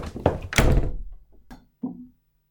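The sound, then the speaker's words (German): A door swings shut with a heavy thunk, followed by a couple of smaller knocks and a last softer bump as it settles; no voices. “Machen Sie sofort die Tür wieder auf.”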